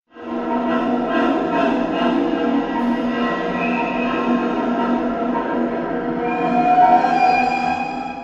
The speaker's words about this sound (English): A train pulled into the station with a hiss.